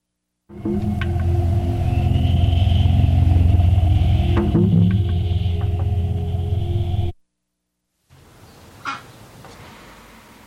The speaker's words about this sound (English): lorry's just passed.